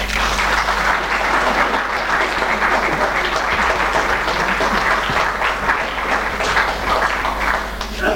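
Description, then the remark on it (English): An audience applauds steadily for about eight seconds, welcoming a speaker before his lecture titled Bioptron Light and Color Therapy, a dense, even wash of many hands clapping at a constant loud level with no voices breaking through. “With a talk entitled Bioptron Light and Color Therapy, please give a rousing welcome and applause to Mr.”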